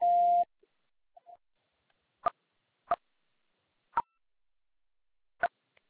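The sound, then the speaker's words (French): A loud, steady electronic beep opens, like a voicemail tone, followed by near-silence broken by four sharp, isolated clicks spaced unevenly apart. “C'est à vous après le bip.”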